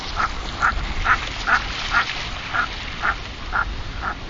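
About nine harsh, croaking common merganser calls repeat at a steady, even pace, each short and rough, heard alone over a faint background hiss with no voices.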